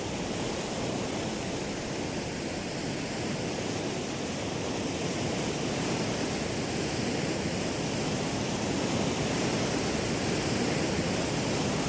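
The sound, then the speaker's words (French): A steady, dense rush of churning water fills the whole stretch, a broad hissing wash as the bow of a container ship slices through the sea, recorded in 2015 during a voyage, loud with no pauses or voices. “Enfin, je sais pas, on a vraiment l'impression que ça fend la mer, quoi. Qu'il y a quelque chose qui rentre dans l'eau, en fait.”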